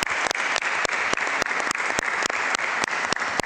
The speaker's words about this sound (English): Let's have a huge round of applause to Mr. Paul Portas and Mr. Miguel Ferreira da Silva.